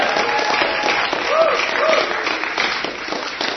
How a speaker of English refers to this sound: All right, guys, thanks so much for coming in. Yeah, can we have another round of applause for these guys?